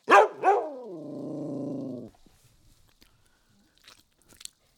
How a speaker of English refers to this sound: Oh, good boy, good boy. Oh, at least I know we have a trusty guard dog.